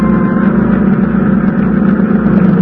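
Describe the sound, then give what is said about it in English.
Boat engines, turned over after dark as the boats set off for a beach with running lights off, drone steadily: a loud, continuous low throb with a rumbling mid-range hum that holds an even level throughout, with no voices. “At last, darkness fell and we turned over our engines and started to the beach, our running lights extinguished.”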